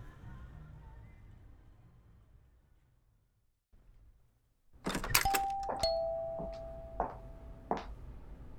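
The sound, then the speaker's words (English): A door chime in a former shop now used as a law office rings with a bright ding-dong, followed by a few more sustained tonal chimes that ring out clearly, after a stretch of low rumbling background noise. “So, just ignore that. I don't know how to turn it off. The ding dong.”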